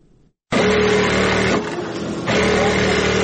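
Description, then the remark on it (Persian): Electric sewing machines, used by schoolgirls sewing clothes around a large table in a tailoring class at a school in Herat, start up abruptly and run steadily with a loud mechanical whir and humming motor tone, easing briefly in the middle before picking up again. No one speaks. “اینجا صنف کلان خیاطی است که دختران دور یک میز کلان با ماشین‌های برقی خیاطی لباس می‌دوزند.”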